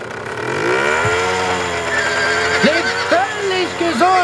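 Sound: horse neighing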